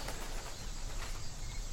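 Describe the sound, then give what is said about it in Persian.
A bird flaps its wings and takes off, a soft, rapid fluttering over a steady hiss of outdoor background noise, with no voices present. “پرنده میپره.”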